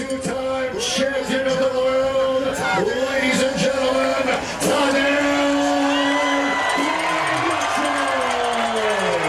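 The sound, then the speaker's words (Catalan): A large crowd at the Fòrum roars in a sustained ovation for Slovenian cyclist Tadej Pogacar during a team presentation, loud and steady throughout, with cheers, whoops and shouts rising above the din. No one speaks clearly over the noise. “Doncs ja ho sentiu, l'ovació a Tadej Pogacar, que és de llarg el ciclista més aclamat aquí al Fòrum.”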